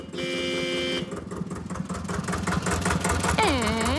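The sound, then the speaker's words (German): An old, historic tractor engine chugs steadily and loudly at a tractor meet in the village of Hengstenberg, its rough rhythmic knocking continuous, with a sustained horn-like tone at the start and a bending, wavering tone near the end. “Ab 11 tuckern bis zu 200 historische Trecker durchs Dorf”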